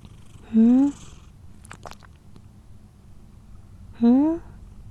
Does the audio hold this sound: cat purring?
yes